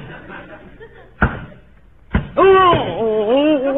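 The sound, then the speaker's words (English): Two sharp, solid hammer blows land about a second apart as a nail is hammered into the wall over a fireplace, each ringing briefly, followed by a loud, drawn-out vocal cry that wavers up and down in pitch as the hammerer hits his thumb. “Honey, I know how to hammer a nail.”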